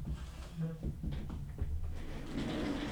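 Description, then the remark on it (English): A woman moves over in a rolling office chair with her bendable microphone: a steady low rumble of casters across a hard floor and a few light clicks and knocks, with faint voices mixed in. “You're in a rolly chair with a microphone that bends.”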